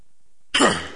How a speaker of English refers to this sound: I'll eventually stop coughing, sorry.